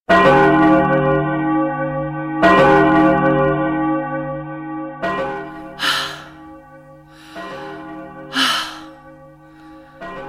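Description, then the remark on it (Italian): A church bell in Lugano tolls noon slowly and steadily, four loud strikes about two and a half seconds apart, each ringing on into the next, with a couple of breathy sighs or gasps between them. “Ah, queste campane! Mai all'unisono quelle di San Nicolao e di Santa Lucia.”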